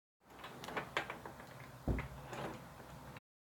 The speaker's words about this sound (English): Oh, close the door behind you.